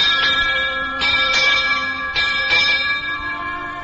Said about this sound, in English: And not only that, my father is at sea, a ship's bell.